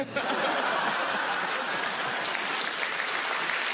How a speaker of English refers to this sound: The audience applauded. They liked it.